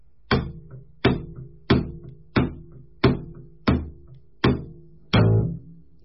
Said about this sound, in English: Now the double slap is the same. You just come down a little harder on the fingerboards just to make contact with it.